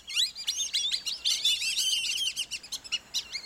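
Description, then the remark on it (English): A flock of whistling ducks calling together, a dense overlapping chorus of high, squeaky whistles with quick rising and falling notes, continuous, with no talking. “Late in the day, large flocks gather, then whistle their way overhead at sunset to nighttime feeding areas in fields or along the shore.”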